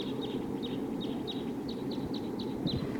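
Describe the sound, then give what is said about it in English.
Short, high chirping calls from at least one wild bird flying around repeat about every third of a second, fairly faint above a steady, loud low rumble like wind. No one speaks. “I definitely hear a wild bird, at least one, flying around here.”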